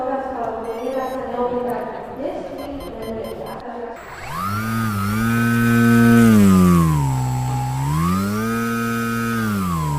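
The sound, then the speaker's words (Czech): After a few seconds of talking, a model airplane's high-thrust electric motor whines loudly, revving up, easing down, then surging and dipping again in smooth pitch sweeps. “Visí to na vrtuli a dělá to malinký poloměry těch obratů, jsou velice malý, jsou utažený, protože všechno to jde za motorem, který má velký tah. Tak pojďme na to, pojďte mi ukázat. Zapněte.”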